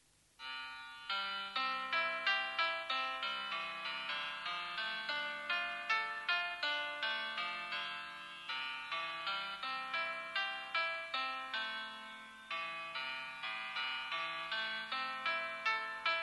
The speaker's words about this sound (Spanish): Aquí voy a poner en la de Perfect Piano, que es lo más parecido que tengo un piano acá en el estudio, ¿cómo sería un ostinato? A ver si bajo ahí un poco el micrófono para subir el teléfono. Esto sería un acompañamiento con ostinato.